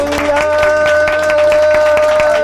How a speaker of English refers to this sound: Let's give the Lord a hand clap for praise and worship tonight.